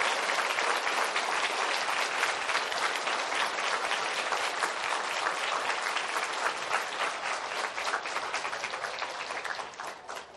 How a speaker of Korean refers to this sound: 수고 많이 하셨습니다. 우리 그분들 위해서 박수 한번 쳐주시기 바랍니다.